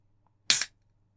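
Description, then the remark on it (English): A single sharp hiss-crack of a can of Tango Orange Sugar Free being popped open, a bright fizzy burst lasting a fraction of a second over a faint low hum, then quiet. “Hey, I got a can pop for you.”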